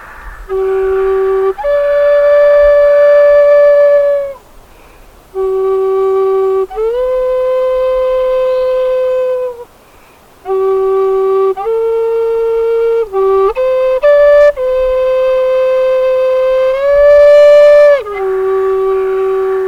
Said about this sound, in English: So if I play this, and we've been making elder whistles or something like that, and it's like, I want to make one of those. All of a sudden, you have whistles that they're drilling holes into and things as well.